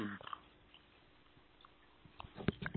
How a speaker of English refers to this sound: I'm going to take a sip of my tea here.